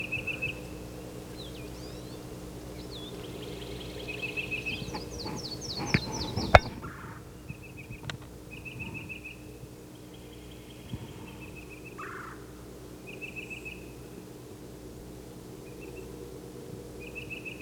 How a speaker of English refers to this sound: The yellow-throated warbler.